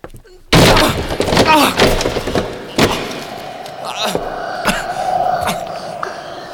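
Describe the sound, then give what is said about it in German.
A sword strikes a locked door with a sudden loud crash as someone tries to break it open, followed by several more heavy blows at uneven intervals, each leaving a faint metallic ring. Forceful. “Nein, ich schlag die Tür mit dem Schwert ein.”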